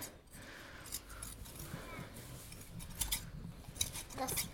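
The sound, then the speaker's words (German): Hand shears snipping through sheep wool: a series of crisp, metallic clicks, irregular and sometimes in quick pairs, over a low rumbling background with faint indistinct voices. “Vor allem, ja, wenn man zum Beispiel anfängt mit Schafen, dann kann man mit der Handschere viel besser lernen, wo der Körper vom Schaf genau ist.”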